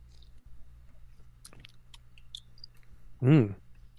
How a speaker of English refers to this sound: All right, we're cracking it open. Ooh, okay. This has been in the fridge for a while. I was saving it for this exact moment. So here we go, going for the sip. This is the Avery Paws and Claws IPA.